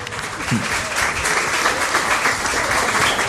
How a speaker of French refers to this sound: Je vous demande d'applaudir chaleureusement